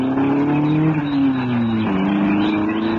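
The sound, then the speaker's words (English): A car engine hums steadily, its pitch sinking slightly over a few seconds as the vehicle pulls away. No one speaks. “I can watch him go and notice the car and get the number.”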